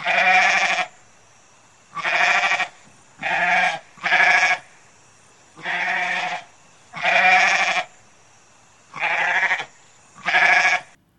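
Wild goats in a cave bleat loudly, eight wavering calls in a steady rhythm with short pauses between them. No one speaks.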